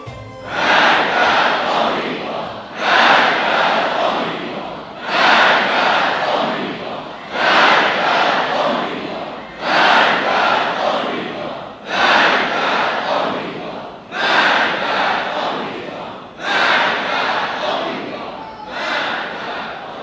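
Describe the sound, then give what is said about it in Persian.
A large crowd chants "Death to America" in loud, rhythmic unison, the same shouted phrase repeating about every two and a half seconds, eight times over. “خب شما که میگید مرگ بر آمریکا، ما هم که موافقیم، هرچی نداره.”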